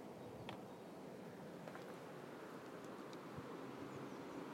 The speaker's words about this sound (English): You can probably hear the wind. It's more high up in the trees. Here it comes. It's just general wind rather than really big gusts.